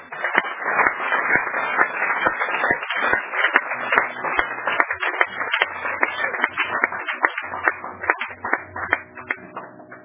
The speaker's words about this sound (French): Applaudissons très fort.